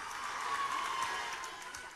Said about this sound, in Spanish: Por favor, muy fuerte aplauso, por favor.